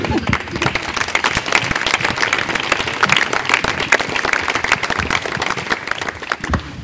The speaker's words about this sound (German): zuerst mal vielen Dank für eure Aufmerksamkeit und den Applaus.